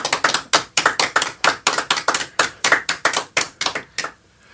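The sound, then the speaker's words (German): Brief applause from a few studio guests at the Radio Pips Lesebühne radio reading: about eighteen sharp, evenly spaced claps at a brisk steady pace, fairly loud and without voices, stopping abruptly just before the end. “Die dürfen sich jetzt ruhig mal mit ein bisschen Applaus bemerkbar machen.”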